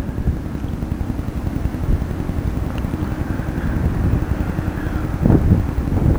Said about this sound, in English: It's so windy. It's just gonna sound like shit.